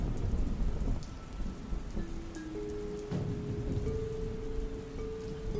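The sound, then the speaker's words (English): Steady rain pours down while deep thunder rumbles low and continuous beneath it, with a faint tonal hum drifting through the storm. No voices are present. “Thunder roared across the sky. The loud booms echoed overhead like a giant strolling through the area amidst the rain, which tapped on the windows like claws prying their way into the safety of the cabin.”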